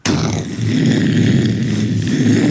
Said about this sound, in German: Doch die Mutter sagte gar nichts mehr und man hörte nur eine große Explosion.